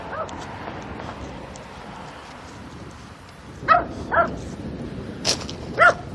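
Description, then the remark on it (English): A loose dog running ahead barks four times in short, sharp bursts, spaced unevenly over the last few seconds, standing out from a steady outdoor background hum after a quiet stretch. “I run up ahead of me and then stop and bark.”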